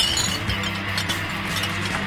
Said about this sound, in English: I'll catch wind of the potent smell of fermentation or the rhythmic sound of breaking glass and think, oh, there must be a Big Loose around here.